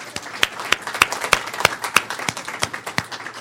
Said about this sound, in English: But I think we owe these two ladies a huge round of applause for all the work that they do.